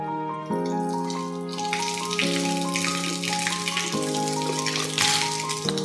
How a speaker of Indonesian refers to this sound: Ini ada air di dalam gayung, Bapak coba masukkan ke dalam botol ini ya.